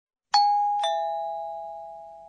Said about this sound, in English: I think that's the sound of a doorbell or a chime. In Japanese, we have a word for this. Ping-pong.